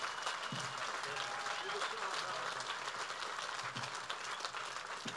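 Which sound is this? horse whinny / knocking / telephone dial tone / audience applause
audience applause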